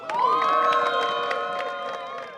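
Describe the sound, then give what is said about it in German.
A crowd cheers and whoops loudly for the team Too Hot to Handle as it is awarded the trophy at a prize ceremony, many voices overlapping in sustained high shouts, while scattered hand claps crackle underneath throughout the whole burst. “Deswegen einen großen Applaus für Too Hot to Handle.”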